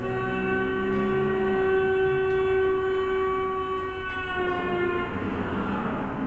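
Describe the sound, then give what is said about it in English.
A passing car horn blares in one long, steady tone for about six seconds, its pitch dropping noticeably about two-thirds of the way through as the Doppler shift takes hold. No one speaks. “So the effect we're listening to is, as the car approached, the pitch was higher, and when the car went past us, the pitch was lower.”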